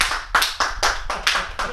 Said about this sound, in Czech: Tak zatleskáme